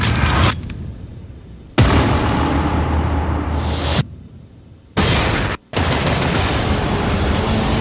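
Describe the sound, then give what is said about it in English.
Loud, roaring explosions and crackling bursts of gunfire from a film's train-crash scene, with a heavy low rumble and abrupt cuts between several dense blasts of noise, no voices. “You're telling me the coolest shot of your movie is this train busting up.”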